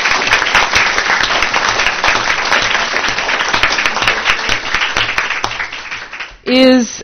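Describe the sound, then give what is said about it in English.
An audience applauds the coaches with a dense, steady patter of many hands clapping for about six seconds, tapering slightly before a brief voiced sound cuts in at the very end. “but also I know from experience that the coaches also have to go above and beyond to help you, and so I think they deserve a round of applause, don't you?”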